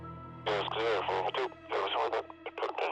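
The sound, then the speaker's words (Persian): A voice speaks in a thin, tinny, band-limited tone like a police walkie-talkie transmission, a few seconds of steady radio chatter calling from Echo to Tango 245, reporting arrival at the incident scene and an ambulance on the way, probably a narrator performing the radio call. “قد بلنده، جلیقه مشکی محافظ و پیراهن سفید پوشیده و یه بیسیم توی دست چپشه. از اکو به تانگو 245 توی محل وقوع حادثه هستیم.”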